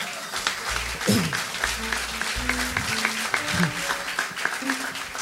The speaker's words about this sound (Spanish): Fuerte aplauso.